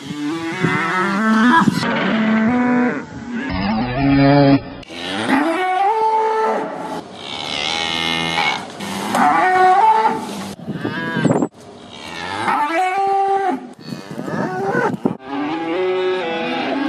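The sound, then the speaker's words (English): Cows mooing with an auto-tuned, pitch-corrected effect, a series of loud, drawn-out moos stepping between musical pitches, with no speech. “Yes, those are auto-tuned cows.”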